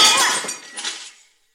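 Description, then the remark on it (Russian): A glass bottle is smashed against a bar in anger, a sharp bright crash followed by a brief tinkling of shards that fades out within about a second. “в ярости разбивает бутылку о бар, неподвижно стоит, держа за горлышко остатки бутылки.”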